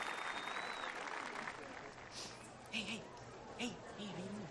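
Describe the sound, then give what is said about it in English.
A crowd at a dog show applauds the toy dogs in a steady, dense patter of clapping that carries through the whole stretch, while a man's voice speaks over it, with a couple of brief louder bursts. “the crowd always responds to the toys”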